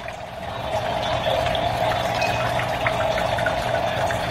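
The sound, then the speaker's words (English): Steady trickling water runs without pause, a continuous splashing wash with a faint low hum underneath and small bright drips glinting on top. No one speaks. “So here, this trickling sound of water is mesmerizing.”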